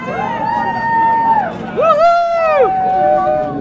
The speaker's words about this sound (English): Our conversation fades into the crowd's excitement. Here comes the boat.